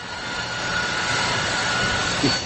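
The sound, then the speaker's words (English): A dense, steady roar of a busy railroad in South Korea, a loud continuous rumble with hiss and a faint whining tone running through it for the whole stretch, no pauses or distinct beats. “This must be one of the busiest and noisiest railroads in the world.”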